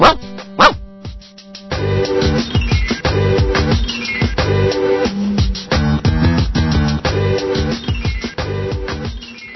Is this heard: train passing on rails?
no